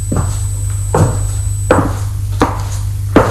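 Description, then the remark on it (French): Five firm knocks at a slow, steady pace, each a sharp hard rap on the wooden door of a living room, with a low steady hum underneath and no voices. “Sans hésiter, il frappe à la porte du salon.”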